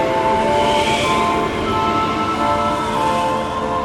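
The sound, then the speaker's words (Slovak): Strong wind from the north blowing hard, a loud, unbroken rush of noise with steady whistling, howling tones running through it for the whole stretch; no voices. “To sa vetri hrajú na preteky. Dujú o preteky a si musím držať klobúk.”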